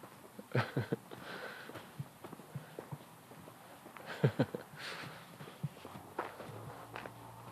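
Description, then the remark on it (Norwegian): Footsteps of a person walking over a hard surface along a familiar walkway in Trondheim, a series of dull, uneven thuds at a steady walking pace, moderately loud with faint background noise and no talking. “Der kommer jeg bortover, du.”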